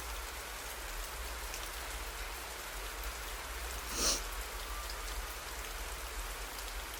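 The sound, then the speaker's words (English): Steady rain falls outdoors, a dense even hiss of drops with no voices, and one brief brighter splash or patter stands out near the middle before the downpour settles back to its constant wash. “It's still raining outside.”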